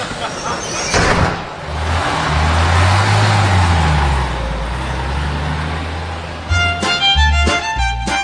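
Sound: bus driving off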